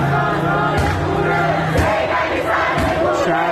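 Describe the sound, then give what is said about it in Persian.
A large crowd at an evening street protest in Iran against the Islamic Republic chants in unison, loud and continuous, voices rising together in rhythmic bursts with occasional sharper shouts cutting through the dense roar. “سازمان ها جمعیت باور نکردنی.”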